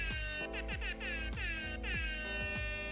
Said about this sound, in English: Are we going to keep using the air horn? We used it last week. I think we should use it again. I mean, I always kind of have it on cue.